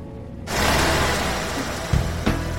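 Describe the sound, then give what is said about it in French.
A large bus engine kicks in abruptly after a brief silence as the bus departs on a trip to Chicago, holding a loud, steady rumble with a hissing roar, broken by a couple of mechanical clunks near the end. “Louis s'était endormi aussitôt après le départ, bercé par la musique dans le bus”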